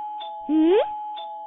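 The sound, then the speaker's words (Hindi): An electronic doorbell chimes with a steady, sustained tone punctuated by short repeated bursts, and a brief rising, voice-like sweep cuts in partway through. “रायका देखिए दरवाजे पे कौन है।”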